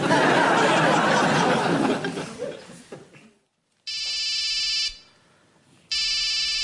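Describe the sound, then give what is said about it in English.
A mobile phone rings in two loud, shrill electronic bursts about a second apart, following a fading wash of noisy crowd sound and a brief silence. “Shouldn't you answer it? It looks like it might be Claire.”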